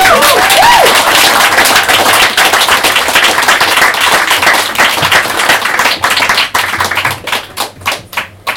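An audience applauds for a poem reading, a dense, steady wash of many hands clapping that holds for several seconds, then thins out into scattered individual claps before stopping.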